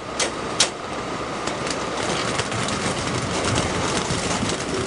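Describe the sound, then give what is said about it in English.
Thousands of pieces of citrus fruit tumble off a truck at the loading dock of the Peace River Citrus Products juicing plant in Bartow, Florida, in a steady, dense rumbling clatter, with a few sharper knocks near the start and no voices. “We're standing now on a loading dock where thousands of pieces of fruit are tumbling off a truck.”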